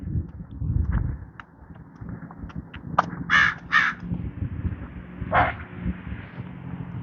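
A crow caws outdoors, giving a pair of harsh, raspy calls and then a third a moment later, over a steady low rumble of background noise with a few faint clicks.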